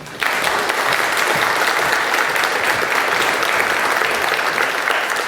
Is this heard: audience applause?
yes